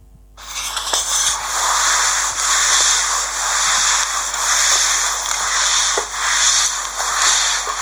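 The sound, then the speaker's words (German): A mop is wiped across a floor in steady back-and-forth swishes, making a continuous rough rubbing noise that swells and dips with each stroke, with no voices. “Du hast gewischt. Genau. Ja, das ist der Wischmopp.”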